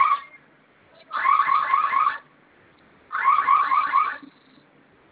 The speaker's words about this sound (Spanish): Ok, en su teclado veo que tiene una letra que es una letra F, ¿verdad? Que es como fuego, significa fuego. Vamos a presionar esta tecla por 5 segundos, por favor. Okay. ¿Ya? Sonó su alarma y vamos a Sí. ingresar su clave.